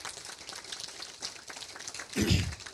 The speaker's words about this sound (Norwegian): Skal vi klappe for det?